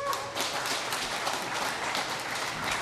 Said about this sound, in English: Clap if you care about Hillary's view of what happened. Clap now if you don't care.